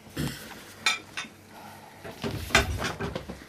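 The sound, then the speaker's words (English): Plates and cutlery clatter and clink as they are cleared up after everyone has finished eating, a series of sharp, bright knocks and scrapes at uneven intervals, fairly loud, with no talking. “Right, if everyone's finished, I'll clear up.”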